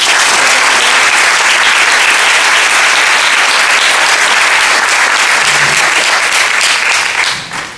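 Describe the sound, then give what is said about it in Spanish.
Sustained audience applause, dense and loud, with many hands clapping steadily for several seconds before tapering off slightly at the end, given in thanks to the students and former students of the PEA for their commitment at a prize event. No one speaks over it. “Les agradecemos a todos ellos especialmente su valioso compromiso con un aplauso.”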